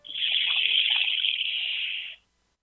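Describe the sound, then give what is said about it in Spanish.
A handheld instrument bought from native people, played to sound like water, makes a steady, rushing hiss like trickling water, holding evenly for about two seconds before cutting off abruptly into silence. “a ver si le sueno el agua con un instrumento que compré en alguna parte a nativos.”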